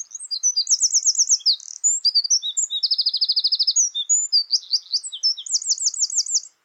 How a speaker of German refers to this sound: werden Tag für Tag die Stimmen der Singvögel wieder lauter